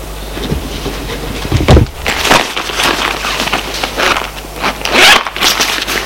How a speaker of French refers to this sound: Elle s'assoit. Ouvre son sac.